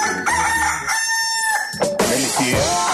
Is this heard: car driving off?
no